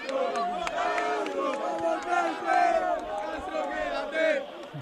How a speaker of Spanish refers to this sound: Te están rodeando ahora mismo, aplauden, gritan tu nombre, ¿qué se siente?